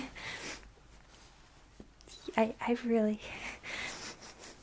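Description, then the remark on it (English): Breathy sniffing of another person up close: a drawn-out inhale at the start and another near the end, with a short wordless voiced murmur in between, all quiet and intimate. “I don't know if it's weird that I'm sniffing you.”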